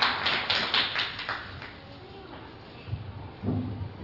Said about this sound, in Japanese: 皆様改めてお拍手をお願いいたします。